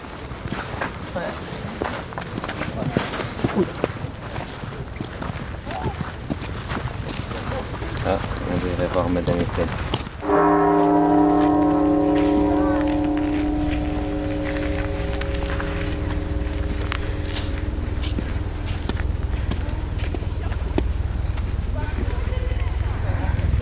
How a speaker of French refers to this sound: Alors si j'ai de la chance, j'ai entendu le bruit de la cloche.